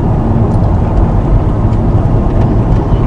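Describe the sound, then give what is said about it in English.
Steady rumble of 5 o'clock traffic on a very busy road as cars pass, a continuous loud low-frequency roar of tires and engines with no pauses and no voices. “Now cars coming down the road here on this very busy road at the 5 o'clock traffic.”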